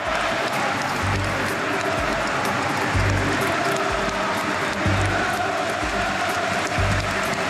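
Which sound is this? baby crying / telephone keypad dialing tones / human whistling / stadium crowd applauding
stadium crowd applauding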